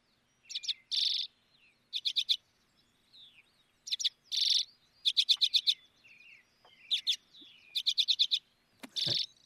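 Redpolls, members of the finch family, chatter in a flock, with quick rattling trills of chips and short buzzy notes coming in repeated bursts, clear against a quiet background.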